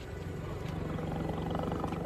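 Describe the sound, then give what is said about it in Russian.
A white tiger roars loudly, a deep, rumbling growl that holds steady for about two seconds with no one speaking. “Тигра. Белого тигра. Ты видишь тигра?”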